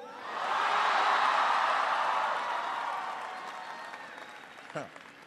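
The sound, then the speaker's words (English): A large crowd applauds loudly, the clapping swelling quickly into a sustained roar with scattered cheers, then gradually tapering off over several seconds. “It's always good to start with an easy applause line.”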